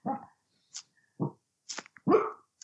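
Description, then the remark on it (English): A large poodle lets out short, gruff growling barks in three bursts, with sharp snorting huffs in between; no one speaks. “And the large poodles do not like this beer. He's just growling away.”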